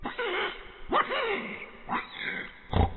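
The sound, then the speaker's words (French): A man imitates a pig, producing a run of rough, nasal grunts and snorts in several loud bursts, somewhat muffled. “Le cochon.”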